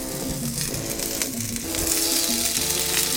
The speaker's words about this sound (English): That cast iron skillet is exactly where you want to be. So I'm going to... Oh, yeah. You hear that sizzle?